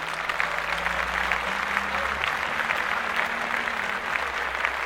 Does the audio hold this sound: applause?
yes